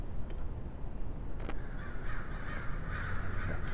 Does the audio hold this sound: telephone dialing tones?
no